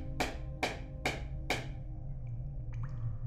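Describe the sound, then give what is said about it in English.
Four sharp, evenly spaced knocks as Modesto knocks on the walls of a mine to signal to other miners ring out over a low, steady rumble, each fading quickly, followed by a few faint, high clinks. “But now, when Modesto knocked on the walls, he got no response.”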